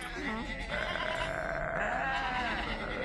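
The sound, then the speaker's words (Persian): Sheep bleating loudly, a long quavering bleat that wavers and trembles for a couple of seconds after a brief shorter call, over a faint rustling background. “همینو بگم که مدتی به گوسفندارا کرایش داده بود.”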